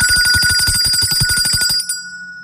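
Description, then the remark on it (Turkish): A loud, rapid bell rings continuously in a fast rattling trill for nearly two seconds, then cuts off abruptly, leaving a faint fading hum: a bell signal on a radio broadcast reminding listeners to drink water, from Arçelik water purification systems. “Hem suyumuzu içelim hem de içtiğimiz suyun bize sağladığı katkıyı zil sesinden sonra dinleyelim.”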